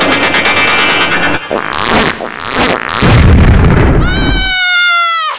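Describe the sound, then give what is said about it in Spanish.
A loud, blustery fart rips out over a second or so, then a high, whining tone slides downward as it fades, with busy cartoonish noise before it. “¡Saco de pedos!”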